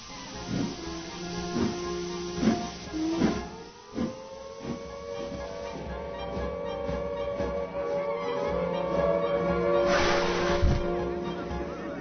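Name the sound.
train departing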